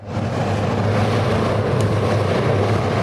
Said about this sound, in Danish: men vindmaskinen er lige i gang derovre. Har du været inde og prøve den?